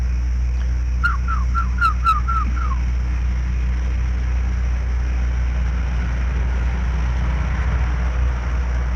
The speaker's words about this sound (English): And to get your horses in from the pasture? Hey, you whistle at them.